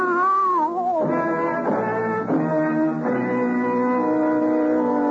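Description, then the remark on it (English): Cats yowling in a dark alley in long, drawn-out wails that slide up and down in pitch, loud and continuous for several seconds with no speech. “You'll lie in the blood of your death and try to explain how it was going to be to the attentive cats.”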